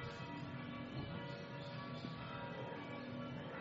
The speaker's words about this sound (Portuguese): Tem uma coisa que vocês não sabem, que os sinos dobram aqui na casa do Dennis. É o badalar do sino.